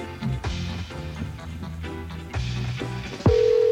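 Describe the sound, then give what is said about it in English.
Background music plays, then near the end a steady electronic tone cuts in, a phone ringing in Milwaukee on the line during an outgoing call, loud and clear over the music. “That's his phone ringing.”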